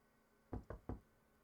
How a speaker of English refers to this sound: The hell's banging at my door right now? What time is it? Oh my god. What is that, a robber?